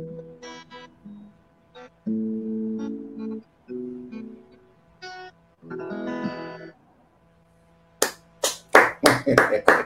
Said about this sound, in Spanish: Aplauso centroamericano, aplauso centroamericano